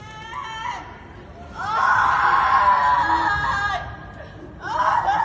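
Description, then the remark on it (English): A woman screams and wails outdoors in long, strained cries: a short cry, then a loud sustained one, and another starting at the end, over low background street noise. “Out in the streets, screaming his name.”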